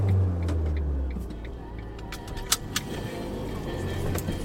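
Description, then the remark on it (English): A steady low engine drone and road rumble inside a moving bus driving from central Liverpool into residential areas, with a few sharp metallic clicks and rattles near the middle and faint voices in the background. “Well, we've been on the bus for about 10 minutes and we've left the sparkly, cosmopolitan, wonderful middle of great city of Liverpool into very straightforward, domestic, residential areas.”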